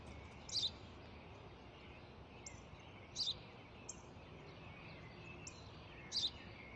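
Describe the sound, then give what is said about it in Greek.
A sparrow chirps in short, bright bursts, about three clear calls spaced a few seconds apart with fainter chirps between, over a steady low background hiss. “Τι είναι αυτό? Μόλις τώρα στο πατέρα, σπουργίτι είναι.”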